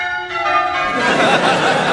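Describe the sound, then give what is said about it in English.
Church bells ring out loudly, a sustained clanging tone quickly joined by more overlapping peals that blend into a dense, shimmering wash of ringing. “But just listen to those bells. Aren't they magnificent?”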